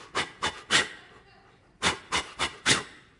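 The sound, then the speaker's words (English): A person imitates rhythmic panting breaths, three quick huffs, a short pause, then four more, fairly loud with breathy hissing bursts: the structured labor breathing taught in birthing classes, done by a birthing coach during a birth. “And I'm doing the breathing.”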